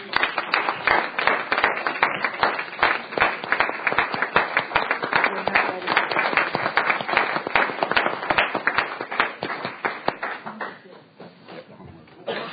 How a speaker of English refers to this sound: So get a good look at their faces, and let's welcome them with a nice round of applause.